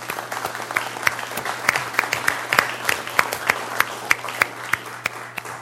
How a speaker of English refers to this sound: So at this time, I would like to give those speakers a fine round of applause and a thank you.